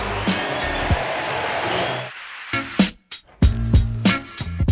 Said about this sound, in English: Deep drive right center, back toward the wall. It's got a chance. Gone! Michael Bush with a two-run homer. Cubs lead 4-0. Listen to this crowd.